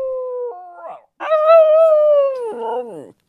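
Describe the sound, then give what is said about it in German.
Migros, a Jack Russell Terrier belonging to Alex Moser, howls: a short stepped howl, a brief pause, then a longer, louder wavering howl that slides downward and breaks off into whimpery tones. “Meint der Migros, der Jack Russell Terrier vom Alex Moser.”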